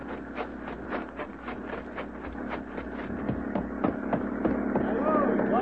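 A police motorboat's engine drones steadily with a rapid knocking chug, growing gradually louder as it approaches across the water.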